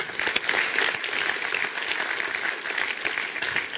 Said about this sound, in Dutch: En zullen we diegenen die net zo dapper hun hand omhoog hebben gestoken, zullen we ze ook een applaus geven.